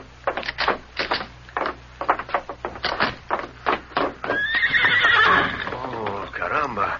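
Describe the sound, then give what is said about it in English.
Hooves clip-clop in a quick, uneven rhythm, then a white horse lets out a loud whinny that rises and wavers for a couple of seconds. “Where would a boy get such a beautiful horse as this?”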